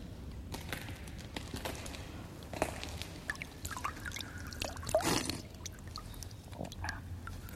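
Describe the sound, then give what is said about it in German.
Water pours and trickles at an old well, a steady wet rush broken by irregular splashes and drips, with a louder splashing surge near the middle. No voices are heard. “Alter Brunnen.”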